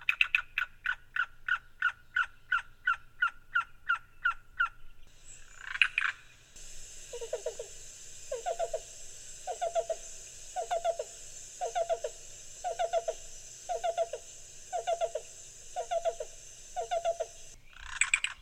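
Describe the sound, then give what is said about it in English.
Yellow-billed and black-billed cuckoo calls: a fast, even string of clucking notes, then a slower, steady series of soft, hollow coos repeating in evenly spaced groups, clear. “One of the secret hidden delights of our summer bird world are the cuckoos, the yellow-billed and the black-billed.”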